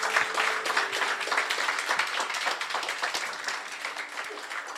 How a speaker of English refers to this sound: Will you just give those folks just a round of applause?